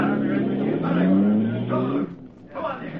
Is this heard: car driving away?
yes